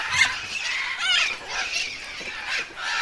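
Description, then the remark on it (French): Harsh, raspy calls of a parrot that comes to nibble at a boot at a feeding site, a run of squawks and chatter with a few louder bursts throughout, and no one speaking. “Simplement, il y a un perroquet qui vient goûter à la botte.”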